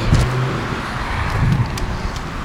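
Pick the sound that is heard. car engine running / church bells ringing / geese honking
car engine running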